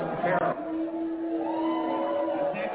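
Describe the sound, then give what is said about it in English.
A crowd boos Asa Hutchinson as he talks about Trump: a sustained, low, droning chorus of many voices, with a few louder shouts rising briefly at the start before the steady booing carries on. “Yeah, they booed.”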